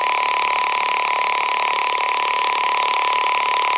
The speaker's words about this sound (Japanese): ノイズブランカーオフ。